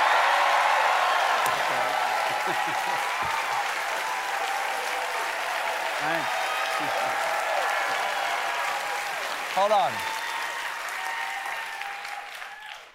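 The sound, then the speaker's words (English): An audience applauds loudly and steadily for about twelve seconds, voting by applause on whether Robert De Niro is sexy, with scattered whoops and cheers rising over the clapping before it tapers off; a voice speaks briefly amid the noise. “Is, let's take a show, let's by applause.”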